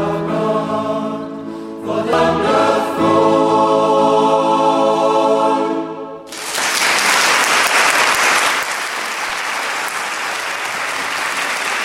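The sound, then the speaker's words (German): A choir, a gospel choir, holds a final sustained harmonic chord for about six seconds in a live recording, then loud, dense applause from the live audience bursts in and continues steadily to the end. “Applaus, Applaus für den ….”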